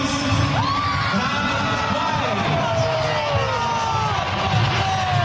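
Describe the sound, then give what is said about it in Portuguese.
A large Grêmio stadium crowd applauds and cheers in a steady, loud roar as a player's name is announced, with scattered whistles and shouts rising above the dense clapping throughout. “Também bem aplaudido.”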